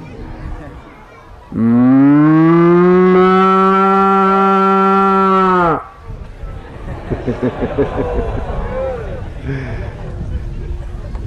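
A single long, loud, drawn-out cow moo rings out for about four seconds, followed by a busy murmur of lowing and animal noise from the herd in the background.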